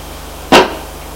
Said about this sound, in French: Il trouve enfin un carton marqué sur une feuille rouge, Pierre de Saint-Auban. Prend le carton, le met à terre.